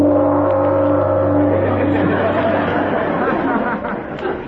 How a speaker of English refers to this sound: Gee, that's a peculiar bell.